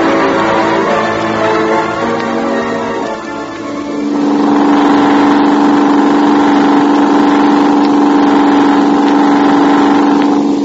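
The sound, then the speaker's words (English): A car engine drones steadily, a loud continuous hum with a shift in pitch around four seconds as it changes gear or speed, then holds a steady cruising roar. “Don't think, just drive.”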